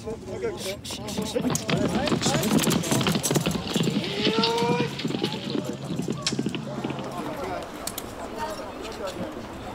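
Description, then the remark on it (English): Rapid, steady hoofbeats of a galloping horse ridden in a horseback archery event pound throughout, loud, with voices and outdoor crowd noise mixed in underneath. “These horses are not the ones we normally ride.”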